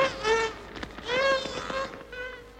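Thin, high-pitched dolphin squeaks come in three wavering bursts, the longest two rising then falling in pitch, with quick clicking pulses scattered between them.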